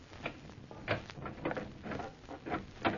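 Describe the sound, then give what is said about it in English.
A simple door lock being picked: a series of small metallic clicks and scrapes at an irregular pace, with soft rattling between them and no talking. “It was just a simple door lock.”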